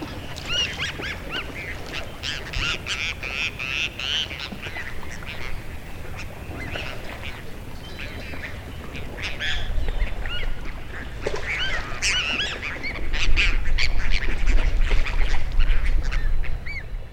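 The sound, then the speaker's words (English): Goldeneye ducks call repeatedly across a lake in short, nasal bursts, some overlapping, over a steady low rumble of highway traffic that swells louder toward the end. “Out there on the lake, I hear their voices, lapping water, and anglers talking in their boats.”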